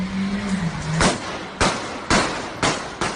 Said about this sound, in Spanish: Con varios tiros de advertencia para intentar detener a ese vehículo, comenzó una entonces una persecución a 200 kilómetros por hora por la ciudad.